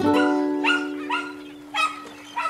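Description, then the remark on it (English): A dog named Fussy barks at a fish about five times in an uneven rhythm, short sharp yaps, over a steady low hum that runs through the whole moment. “Fussy barked at it.”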